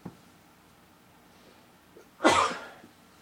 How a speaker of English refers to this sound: And I think that, I'm going to sneeze, give me just a moment.